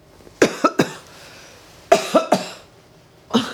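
A loud coughing fit: a quick cluster of three harsh coughs, a pause, another burst of three, then a final single cough, with no talking.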